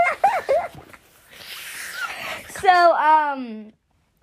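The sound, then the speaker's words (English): A person yawns: a few short voiced sounds, a long breathy inhale, then a drawn-out, wavering vocal tone that stops abruptly and leaves silence. No words are spoken. “I'm yawning.”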